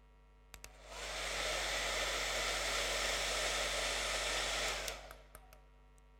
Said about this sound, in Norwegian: Det kan være vanskelig å se vinden som blåser ifra hårføneren.